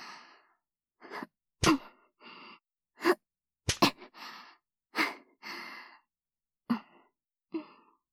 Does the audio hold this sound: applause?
no